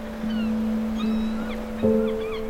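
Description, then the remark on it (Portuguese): At a beach, a steady, droning horn from fishermen's boats at sea sounds over a soft seaside wash, swelling louder near the end, with faint cries of distant seagulls chirping. “Ao longe, ouves as gaivotas e os sons dos pescadores que estão nos barcos, no mar.”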